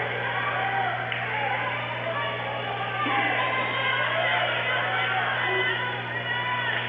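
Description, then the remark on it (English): A volleyball crowd cheers and roars in a dense, unbroken wash of noise during a match between the Cardinals and the Sting, swelling slightly partway through, with indistinct voices blending into the steady din. “Crowd starting to get into it here.”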